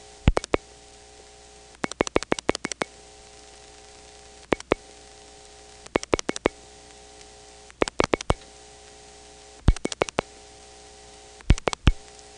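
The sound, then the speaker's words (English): A steady electrical hum drones on a phone line while bursts of sharp clicks from a rotary dial break through in quick trains, roughly every couple of seconds. The hum never fades. “The hum did not get softer. Now I'll keep dialing.”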